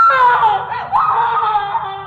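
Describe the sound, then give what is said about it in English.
A woman screams in terror, one long, loud, wavering cry that dips briefly and then surges again, lasting about two seconds with no talking. “The darkness at the top of the stairs seemed to move, take shape, and I saw... heard her screaming.”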